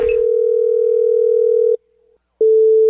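A telephone line rings as a call is placed to a carpet cleaning business: a steady electronic tone holds for nearly two seconds, drops out briefly, then starts again, clear and with no voices.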